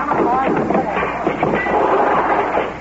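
Newspaper printing presses being smashed: a loud, unbroken din of crashing, banging and metallic clatter, with indistinct voices mixed into the racket throughout.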